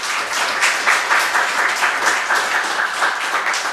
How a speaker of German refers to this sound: Erstmal einen herzlichen Applaus.